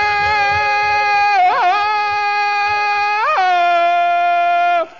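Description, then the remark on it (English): Tarzan's loud jungle yell like a bull ape: one long, sustained, high-pitched call broken by two quick yodeling warbles, held for about five seconds before it abruptly stops. “Tarzan, why you make screams like bull ape?”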